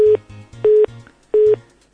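A telephone busy signal after the caller hung up: short, loud, evenly spaced tone beeps repeating about every two-thirds of a second, clear, with no voices over it.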